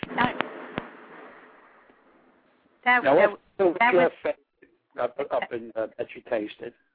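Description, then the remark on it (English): A loud crash of thunder: a few sharp cracks, then a rumbling roar that fades over a couple of seconds before someone starts talking. “In case you didn't hear, that was a loud crash of thunder.”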